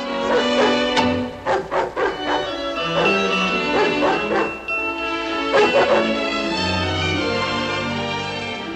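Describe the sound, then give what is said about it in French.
A dog barks in short bursts and whimpers with drawn-out, whining tones, loud over a steady tonal background, with a faint voice here and there, as it is sent out of a children's nursery. “Pauvre Nana, la voilà chassée de la nurserie”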